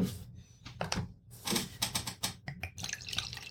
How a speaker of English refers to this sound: Now, this is an interesting Cabernet. Grand Sud. Never heard of it. Grand Sud Cabernet. And, this looks like an interesting wine. All right, we'll open it up and we'll... pour a little in the glass.